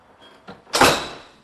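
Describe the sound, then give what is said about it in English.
A sliding patio door rolls along its track: a soft knock, then a loud, broad rumbling whoosh that fades over about half a second, with no talking. “There's a patio door. It's right here.”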